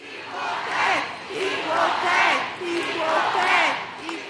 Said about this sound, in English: Canyon of Heroes, Lower Manhattan. The confetti and ticker tape rained down today on the U.S. women's national team, and so did a by now familiar cheer.